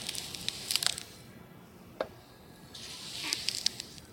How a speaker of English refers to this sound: Now let's listen to the correct way to slice scallions. This is a more horizontal, slow, smooth slicing instead of a chopping.